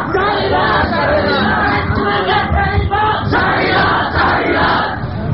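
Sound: crowd chanting political slogans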